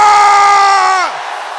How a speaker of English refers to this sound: Let your voice roar like thunder as you say, angels of favor.